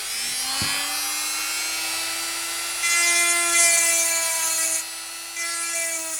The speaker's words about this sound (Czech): Já dělám ty děrované kraslice a ty slámové. Teď vemu brusku.